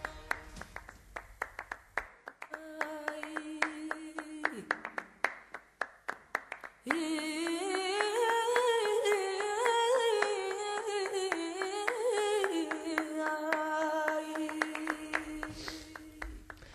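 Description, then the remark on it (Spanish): Steady hand clapping keeps time with music, crisp claps over a sparse tune at first, then continuing under a fuller, louder stretch of melody. “Tú ayer sabes que se bajaba así rapeando, hoy dándole palmas aquí, que es que te gusta todo, chiquillo.”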